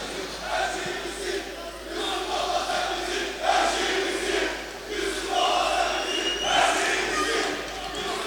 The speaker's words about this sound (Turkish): Çok teşekkür ediyorum. Sevgili misafirler, güzel alkışlarınıza, şahsıma beslediğiniz güzel duygulara çok teşekkür ediyorum.